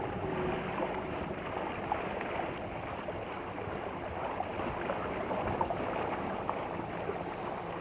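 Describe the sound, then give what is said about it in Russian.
A small motorboat runs steadily over the calm Mediterranean Sea, its engine a continuous low drone mixed with rushing water and wind noise, fairly loud throughout without any talking. “Хорошо бежит катерок.”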